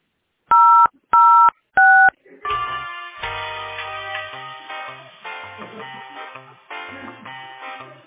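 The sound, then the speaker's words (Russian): Three loud, short telephone keypad beeps, each a steady dual-tone pitch, pressed in an even rhythm to dial an employee's extension on a call to the company Teploenergosbyt SPB, followed by a continuous bright, melodic stretch of layered tones. “Если вы знаете внутренний номер сотрудника, наберите.”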